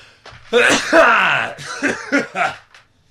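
A loud sneeze with a drawn-out voiced build-up, followed by a few short, breathy vocal bursts as it trails off. No speech around it.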